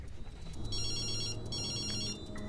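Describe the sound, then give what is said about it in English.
A telephone rings twice in quick bursts on an outgoing call a man has dialed, the ringing a bit thin as if heard through the handset, over a low steady background hum; a man in a car answers. “Replacing the phone in her bag, he gets up and dials out. A sinister man in a car answers.”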